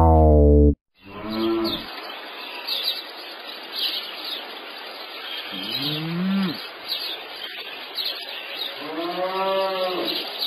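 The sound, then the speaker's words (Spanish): A cow moos several times in an open outdoor setting, with a loud call at the start followed by three drawn-out moos spaced a few seconds apart. Birds chirp faintly throughout. “Esto es una vaca que está paseando por el prado”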